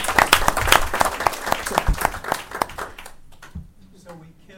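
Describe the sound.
A small group claps together in brisk, overlapping applause for about three seconds, then the clapping dies away and a voice starts speaking.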